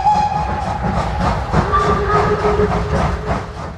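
A steam train rumbles along steadily with a rapid, rhythmic chugging and clatter, joined by thin whistle tones that rise briefly over the noise. Loud, with no voices.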